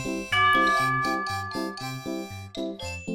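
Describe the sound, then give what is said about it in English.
A bright bell chime plays a quick little melody of about ten ringing notes, each tone overlapping the next with a lingering shimmer, clear with no voices, signalling listeners to repeat the words in a listening exercise. “Listen again and repeat the words after the bell.”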